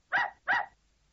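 A dog barks twice in quick succession, two short, clear woofs with a brief pause between them and no one talking.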